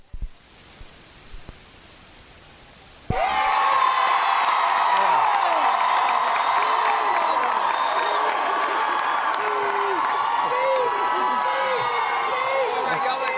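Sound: audience applause and cheering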